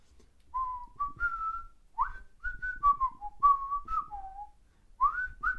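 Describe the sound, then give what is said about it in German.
A person whistles the bouncy theme melody of the Gummibärenbande (Gummi Bears) cartoon, a run of clear sliding notes in quick phrases with short breaths between them, fairly loud, with no talking. “Ich würde es jetzt einfach mal pfeifen und gucken, ob du das errätst.”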